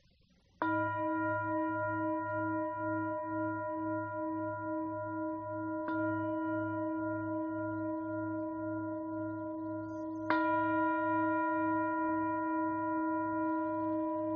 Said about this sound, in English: That is usually known as a community signal of distress. It is what's called tolling the bells. In order to toll the bell, you have to pull the rope down and hold on to it with all your might to keep it from peeling.